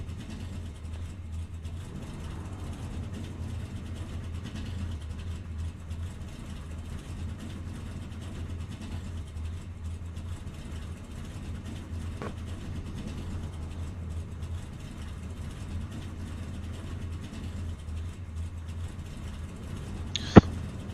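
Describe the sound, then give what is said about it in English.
A racing truck engine drones steadily, a low rumbling hum that holds for the whole stretch, with a faint click midway and a brief sharp chirp near the end. “Just kind of hoping this truck doesn't heat up too much, because I know when I was doing practice, it was getting like right around 266, so hopefully we get the draft, lay out of the throttle a little bit.”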